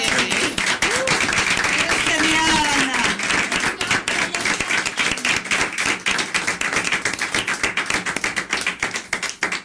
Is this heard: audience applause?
yes